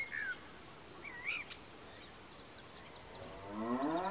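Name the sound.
cow mooing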